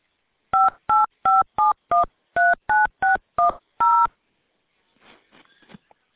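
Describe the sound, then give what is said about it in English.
A quick run of ten touch-tone keypad beeps, each a short two-note chirp in a fairly steady rhythm, as a mobile phone number is punched in for an airline's automated callback line, followed by faint rustling. “Please enter a mobile number where we can reach you.”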